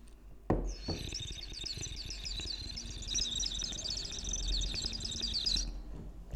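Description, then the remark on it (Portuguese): A water bird whistle filled with water warbles in a continuous, rapid trilling chirp for several seconds, fairly loud, imitating birdsong over faint background noise. “Aqueles assubios. Yeah, que são pássaros, yeah. Mas por acaso metes água lá dentro.”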